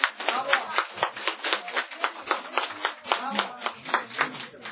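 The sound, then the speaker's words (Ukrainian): People in a committee room applaud after a vote approving a draft law: dense overlapping claps rolling steadily for several seconds at a moderate, even level, with faint voices murmuring underneath. “Шановні колеги, поки що аплодувати рано, тому що аплодувати будемо тоді, коли законопроект буде проголосований в залі.”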